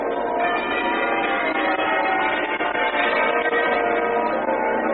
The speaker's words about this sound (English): Peal of muffled bells rings out over the rooftops.